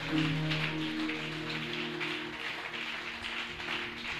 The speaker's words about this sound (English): Clap your two hands right now.